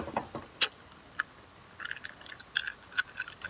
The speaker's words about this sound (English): Cough drop noises. See? Cough drop.